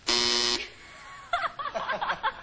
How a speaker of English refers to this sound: She said it on the buzzer.